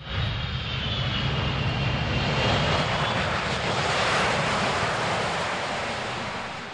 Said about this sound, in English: Finally, the tower gave the go-ahead for the approach, and the first commercial supersonic airplane began its landing at Dulles.